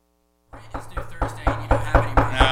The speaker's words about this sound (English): No, you got to knock. You got to say it real loud. Now keep knocking while you're saying it. There you go. Now do it again, only louder.